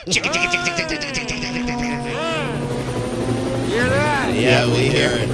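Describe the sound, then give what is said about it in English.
A helicopter's rhythmic rotor chop thrums steadily throughout, loud, with a whining engine tone that rises and bends as it passes overhead, and voices are faintly mixed in underneath. “What, I can't even imagine if a helicopter flew over Lenny Dykstra when he was talking.”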